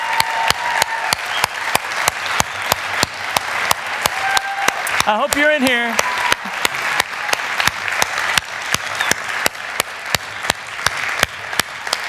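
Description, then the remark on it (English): Loud, sustained applause at a church service for a man who worked behind the scenes on the Reality Kids Wing, with sharp, evenly spaced claps running through the whole stretch, while a voice speaks briefly over it partway through. “I want us to give him thunderous and extended applause.”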